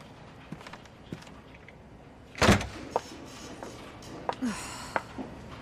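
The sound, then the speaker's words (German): A door swings shut with one solid thud, set among scattered softer knocks and shuffling movement, with no one speaking. “Schließen Sie die Tür hinter sich.”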